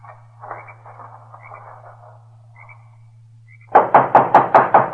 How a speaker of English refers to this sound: There he knocked, and then disappeared inside.